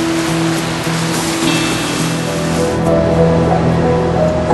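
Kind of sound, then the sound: nature, waterfall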